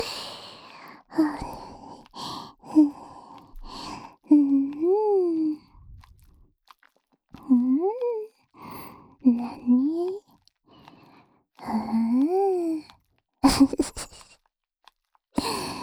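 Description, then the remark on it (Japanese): Heavy panting breaths, fairly loud, arriving in repeated bursts with short pauses; several are voiced, rising into breathy, moan-like tones. “はぁはぁ言ってるね、でもね。”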